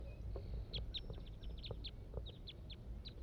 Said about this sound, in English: More wild birds are coming in now. Song from the wild bird.